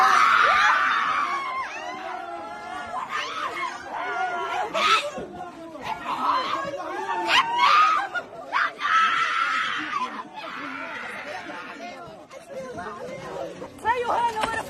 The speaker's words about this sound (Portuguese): Os gritos que ouvimos são de desespero de uma mulher em Gaza que muito provavelmente vai ter que levantar, juntar o que sobrou dos seus e recomeçar a luta pela vida.